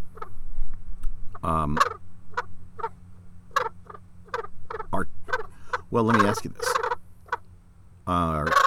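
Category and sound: bird, turkey gobbling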